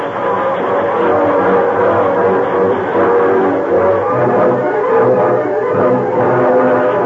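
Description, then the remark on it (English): A steam train running fast as it heads back toward a town: a loud, steady roar of rushing, rattling noise with a low rumbling churn underneath, continuous, with no voices. “Once more, the train was underway at a fast speed, heading back toward the town.”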